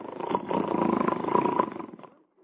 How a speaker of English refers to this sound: How you like that? I really must be tired. I ain't asleep, but I am snoring already.